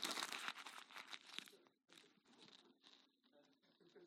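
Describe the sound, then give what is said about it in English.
Paper being crumpled and thrown, a dense crackling and crinkling that comes in quick bursts, pauses briefly, then resumes more softly before trailing off. “I'll inspire you with throwing paper.”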